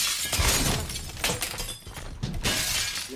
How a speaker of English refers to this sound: Son of a bitch. Well, now there's glass on the floor.